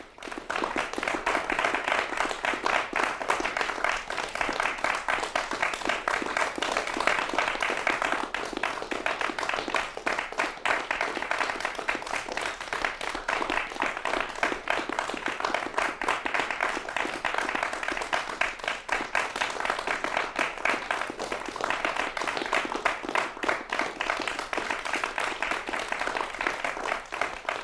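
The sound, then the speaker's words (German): Sustained applause from a crowd, a dense, steady wash of many hands clapping at an even loudness for the whole stretch, with no voices standing out, opening Kunstradio's long night of new Austrian music. “Applaus für die lange Nacht der neuen österreichischen Musik, die das Kunstradio heute einleitet.”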